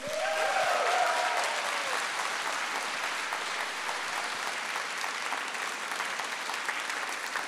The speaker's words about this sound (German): Und die Menschen, falls ihr am Radio oder am Podcast zuhört, die ihr gerade klatschen gehört habt, das ist Gelsenkirchen.